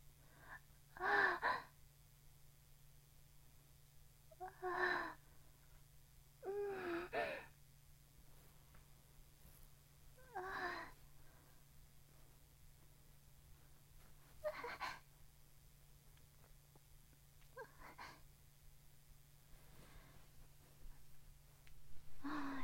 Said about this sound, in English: Love to hear Daddy's heavy breathing. I want to hear the noises he makes.